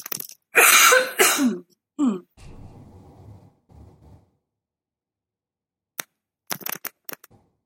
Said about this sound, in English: Okay, I still have, cool, like, lingering COVID cough, so.